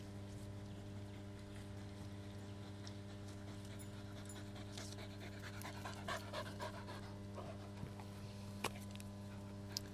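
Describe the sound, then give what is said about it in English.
A dog, Molly Moo, pants rapidly and steadily while a ball is thrown for it, spraying slobber, its quick breaths carrying over a constant low engine hum, with a few wet snorts and faint whimpers near the end. “I'm getting sick of the dog slobber spraying all over the place as I throw this ball.”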